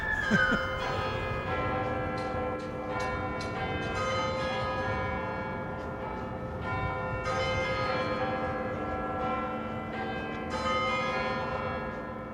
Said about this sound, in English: The chimes of Big Ben as never heard before. That was part of a work entitled Speeds of Time 2008 by the sound artist Bill Fontana, currently installed in the Tate Britain.